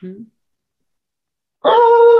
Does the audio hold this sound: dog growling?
yes